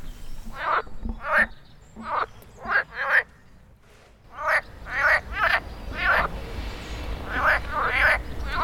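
A chorus of frogs croaking in spring, during mating season, in repeated bursts, several calls overlapping in an uneven rhythm, loud against a faint outdoor background with no talking.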